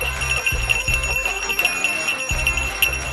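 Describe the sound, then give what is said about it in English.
A reindeer bell shakes steadily and continuously, a bright, dense metallic jingling with a low rumble pulsing underneath, no voices. “It's my reindeer bell because it's my last show before Christmas.”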